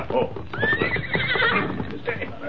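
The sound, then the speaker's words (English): Rapid clip-clopping hoofbeats of Tonto's paint horse, Scout, approaching, patter steadily throughout, while a loud, drawn-out whinny rises over them midway before the clopping continues. “As the masked man sat in the shadows near the stage office, he heard hoofbeats approaching.”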